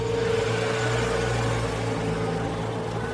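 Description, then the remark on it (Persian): A car engine hums steadily as the car drives into the courtyard of a house, a low, even drone with a faint background hiss and no change in pitch or loudness, and nobody speaking. “مالک با ماشینش وارد حیاط میشه.”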